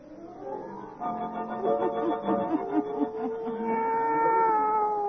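A black cat named Satan yowls in long, wavering, drawn-out wails that rise and fall in pitch, loud, continuing for several seconds with no talking.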